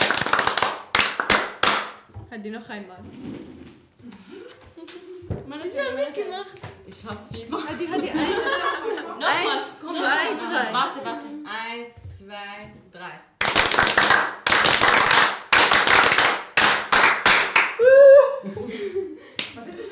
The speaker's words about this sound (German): Das ist unsere Klatschen in Syrien. Wenn wir in die Schule rein oder in die Klasse reingehen, wir müssen das machen.